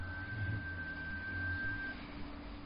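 A phone ringtone holds one steady high electronic pitch for about two seconds over a low, rumbling background hum, then cuts off, leaving only the murmur of noise.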